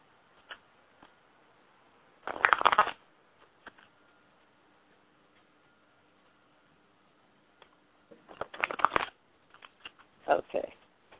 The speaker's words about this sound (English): Are you shuffling cards? You're using cards, right? Yeah, I'm using cards.